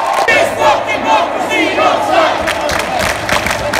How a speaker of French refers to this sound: Au début des années 1970, William Burroughs préconisait non seulement l'usage d'infrasons dans les concerts pour faire vibrer le public, mais aussi la diffusion de sons d'émeutes pour créer des émeutes.